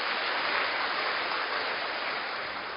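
Steady, dense applause from an audience, a continuous hiss of many hands clapping at even loudness for about three seconds, with no talking over it.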